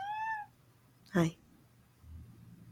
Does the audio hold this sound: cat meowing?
yes